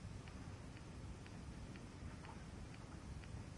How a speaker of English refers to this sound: It rained, and the rain drifted through Baby Bear's helmet.